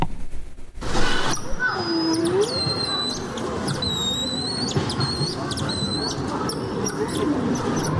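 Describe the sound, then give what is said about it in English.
Golden lion tamarins give a series of shrill, whistling calls in quick repeated bursts over a steady rushing forest-like background with a brief lower swooping note early on. “I want to go to the golden lion tamarins.”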